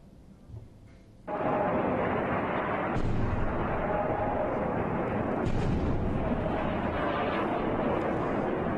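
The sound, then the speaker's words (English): Explosions from Israeli warplane airstrikes on the Gaza Strip: after a brief quiet moment, a sudden loud blast erupts into a sustained, rumbling roar of heavy explosions and booming detonations that continues without pause, with further surges of noise along the way. “Loud explosions were heard following the attacks.”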